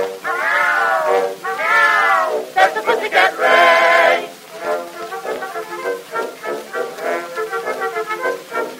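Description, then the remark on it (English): Loud cats yowl and caterwaul beneath a window at 12 o'clock at night, in long, wavering cries that swoop up and down in pitch, then break into a rapid run of shorter, overlapping meows. “Right underneath my window at 12 o'clock at night, they either serenade the moon or else they'll start a fight.”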